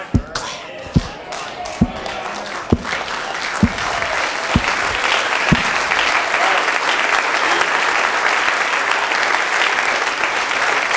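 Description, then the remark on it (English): An audience claps hands, starting with a few loud, evenly spaced unison claps that quickly swell into steady, sustained applause. “So you don't want to clap your hands?”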